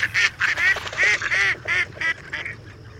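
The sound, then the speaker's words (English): Mallard ducks quack in a rapid, insistent series of about nine harsh, nasal calls, fairly loud, with no one talking, as a drake bobs his head in a courtship display for a female on the water and the pair mate. “The drake is doing a courtship dance for the female in the water.”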